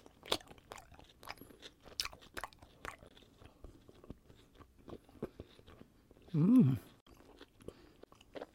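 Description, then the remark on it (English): Crunching and chewing of a crisp, mango-filled snack, with repeated sharp crackly bites in a steady rhythm, then a short hum or murmur near the end. “Crunchy.”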